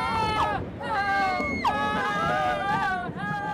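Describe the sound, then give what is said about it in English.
Panicking passengers on a plane going down in a tropical storm scream and wail in overlapping, high-pitched cries with sharp falling glides, carried over a steady roar and crowd hubbub for the whole stretch. “Some of the other passengers start to panic and scream.”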